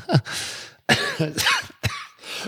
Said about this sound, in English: Excuse me, coughing away there. Listen to me.